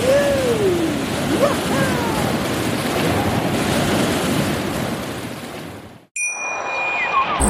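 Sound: ocean waves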